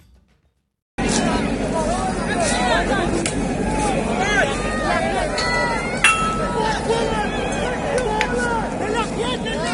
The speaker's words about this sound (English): The border has been likened to an iron curtain of sorts, dividing east and west. As helicopters swarm above, the sounds of rocks hitting the barbed wire fence that separates Belarus and Poland is heard amongst violent clashes.